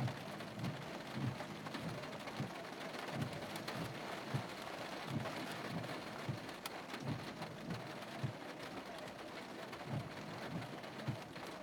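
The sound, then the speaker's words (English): Steady rain falls throughout during a baseball team's parade in cars, a dense continuous hiss with pattering drops striking hard surfaces, broken only by faint low thumps and no voices. “Don't get me wrong, I like baseball, but fucking coming out in the fucking rain to watch a baseball team fucking ride by in cars, fucking whatever, man.”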